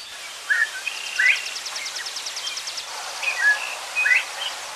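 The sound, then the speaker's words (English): A northern bobwhite's clear rising whistle, sounding like the words 'bob white', sounds twice outdoors against a background of other birds, with a rapid high trill running underneath. “All right, it sounded just like a few birds there, but no, in particular, there was one bird in there known as a Bob White.”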